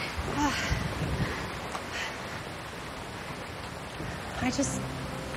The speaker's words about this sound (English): They pull into the parking lot under heavy rain.